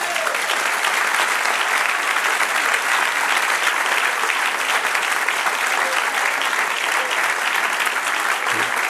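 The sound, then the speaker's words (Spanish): An audience claps together in sustained, dense applause offered to the Lord, staying steady and loud throughout, filling the space with no clear pauses or individual voices standing out. “Ofrece el otro aplauso al Señor.”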